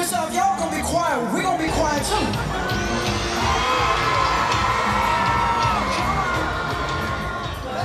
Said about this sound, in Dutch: Gaan jullie heel hard gillen zo? Ja. Heb ik geen stem meer. Jee, morgen is het echt gewoon kibra kibra. Heb je een preview? En gegild werd er tijdens het concert.